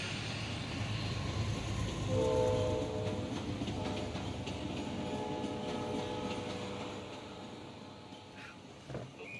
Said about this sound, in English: On the train. Train? Where?